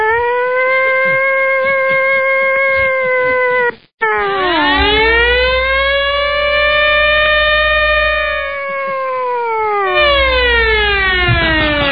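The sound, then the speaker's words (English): A loud air siren wails steadily, its rich tone briefly cutting out, then dipping low and climbing back up before sliding down again in a long, mournful sweep, with no voices. “How about an air siren?”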